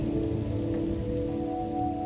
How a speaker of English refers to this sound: For a brief moment at twilight, the forest seems of human scale. Somehow manageable. But then comes night, and perhaps a downpour.